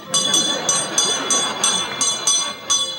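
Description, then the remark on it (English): A little hand bell, used together with a little kettle at Christmas, rings steadily, clanging about ten quick, bright strikes in an even rhythm over a busy, murmuring background. “Because when I add this little kettle here, and when I add this little bell, it becomes a small business.”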